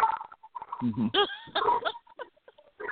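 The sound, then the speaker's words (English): A dog barks excitedly in a few quick, high-pitched yelping bursts, loud and urgent, with a voice talking briefly around them. The male dog is set off by hearing the word "gun" spoken, in a home in New Orleans. “My dog is freaking out all of a sudden.”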